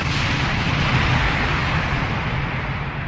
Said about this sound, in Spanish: Después del disparo estalló la primera granada, señal para el inicio de la rebelión.